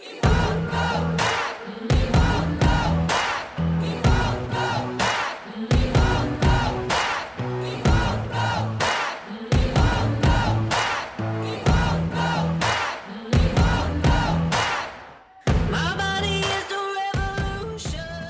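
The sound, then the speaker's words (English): A large protest crowd chants "We Won't Go Back" loudly in a steady, repeating rhythm, voices shouting together in punchy bursts; near the end the sound shifts to a brighter, more tonal texture. “It was one of those things where I was like fumbling really quickly to set up my recording gear, put down the drum samples, and then sample the audio of the protest.”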